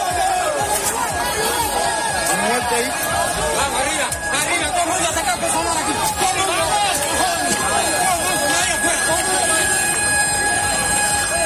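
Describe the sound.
Rescue teams at work around 1 a.m. at the ruins of the collapsed Hotel Saratoga in central Havana, Cuba: a steady, loud din of many overlapping voices and calls over a constant mechanical hum, with occasional sharper clanks, unbroken throughout.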